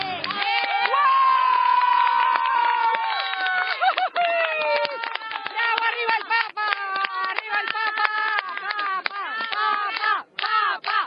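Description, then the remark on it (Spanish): A large crowd cheers and shouts continuously to greet the Pope, many voices overlapping in a loud, excited roar with scattered claps and high-pitched yells, filling the whole scene. “Banderas, aplausos, gente gritando para saludar al Papa y muchas, muchas cámaras de foto.”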